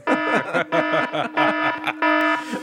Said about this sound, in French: Il y a pas l'alarme là. Ah oui, l'alarme. Pas l'alarme.